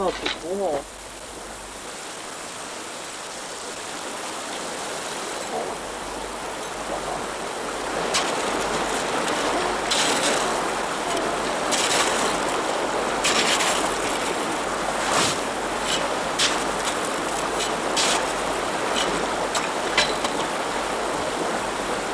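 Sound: river water flowing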